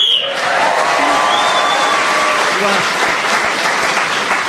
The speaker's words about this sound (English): So Paul Merton was speaking then as the whistle went in.